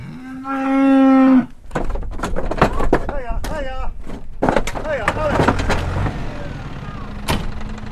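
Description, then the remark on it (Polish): A cow on a farm lets out one long, loud moo near the start, a deep drawn-out bellow lasting about a second, because a calf is missing from the herd, followed by people talking and scattered clattering sounds. “To znaczy, że brakuje cielaka i wtedy namierzamy, gdzie jest cielak, albo przeliczamy stado, czy wszystko pasuje.”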